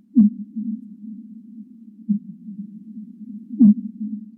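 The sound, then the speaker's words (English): Fin whale song: low pulsed chirps sweeping downward, three in a slow regular rhythm, sitting over a steady low rumbling hum with no talk. “These fin whale songs are usually treated as noise by seismologists because they muddy up data gathered at the bottom of the ocean.”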